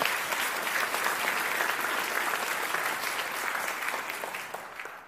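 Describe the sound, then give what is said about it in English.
An audience at an event applauds its donors steadily, a dense wash of many hands clapping at even loudness for about five seconds before thinning slightly at the end. No one speaks over it. “Please, a special round of applause for our donors.”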